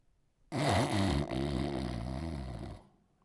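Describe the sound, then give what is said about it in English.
A person snores once, a single long, loud, rasping snore lasting over two seconds with a low, wavering pitch, then it cuts off into quiet, heard as a speaker got up to teach on a Saturday morning. No one speaks. “I thought he was in the back someplace making like he was snoring.”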